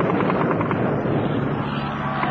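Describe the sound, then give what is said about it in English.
A dense, steady roar of six low-flying RAF Mosquito fighter-bomber engines fills the whole moment, loud and unbroken, with a rough droning texture and no voices. “Mosquito fighter bombers! They're coming in very low.”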